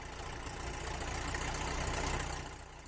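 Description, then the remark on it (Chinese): A light aircraft engine runs steadily through a ground run-up after preflight checks, before takeoff, a continuous droning hum that swells slightly before easing off near the end, with no voices. “各项工作检查完毕，发动机开始试车。”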